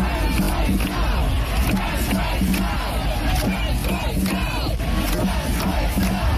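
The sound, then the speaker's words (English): A large protest crowd at the April 19th emergency trans rights demonstration in London's Parliament Square, organized by 24 queer and human rights groups, roars steadily, many voices shouting and chanting over one another in a loud, continuous din with no pauses throughout. “The April 19th emergency demonstration in London's Parliament Square was organized by 24 queer and human rights groups on less than 3 days' notice.”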